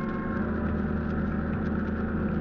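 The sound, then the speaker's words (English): Boat engines are turned over after dark as the boats set off toward a beach with their running lights off, a steady, low, throbbing drone, fairly loud, holding an even idle throughout with no voices. “At last, darkness fell and we turned over our engines and started to the beach, our running lights extinguished.”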